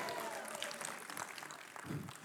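A crowd claps steadily in a dense, continuous patter of many hands, fairly loud and sustained throughout, with faint voices murmuring beneath the applause.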